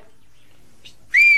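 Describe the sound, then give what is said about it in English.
Someone whistles a coded signal in the whistled language of Kuskoy, meaning "brother, let's go down to the valley": a brief faint chirp, then a loud, piercing whistled note that holds steady and is cut off abruptly. No one speaks. “You can even whistle in code so the neighbors don't understand. Ours goes like this.”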